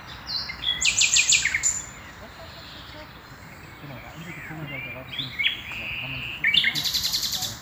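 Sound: male nightingale singing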